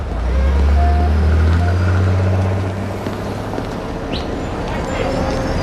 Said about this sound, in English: 8 days later, Morty gets out of a taxi on a busy midtown corner.